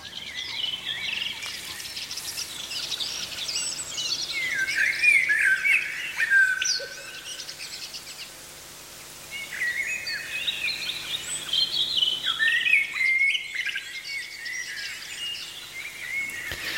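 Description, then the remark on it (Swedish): A dense chorus of many birds singing at once at night at Siggefora in Uppland, Sweden, during the annual bird song night, with overlapping trills, chirps and squawks that run continuously, easing briefly midway before swelling again. No voices are heard. “Mm, ett litet smakprov från de här 10 minuters bitarna från årets fågelsångsnatt som du alltså hittar i Sveriges Radio-appen.”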